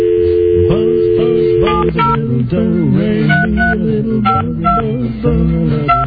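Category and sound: signal or alarm, telephone number being dialed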